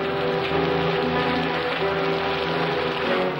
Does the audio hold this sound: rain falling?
yes